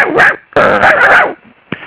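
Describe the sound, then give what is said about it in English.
A person imitates a puppy's barks: two yappy, harmonic bursts, the second longer, followed by a short breathy yip. No other talking. “maybe I could just say a few words in doggy in here. You can bark along with me if you want.”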